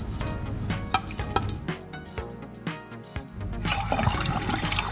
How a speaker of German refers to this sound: Bei beiden Töpfen kommt jetzt ein halber Liter Wasser noch mit rein.